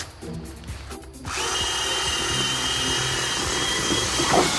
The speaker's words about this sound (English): For this hack, grab a sack of potatoes, get a bucket, put some water in it, and this is the fun part. Get your sweet drill brush. Take your potatoes, dump them in your bucket, fill it halfway up with water, and go to town.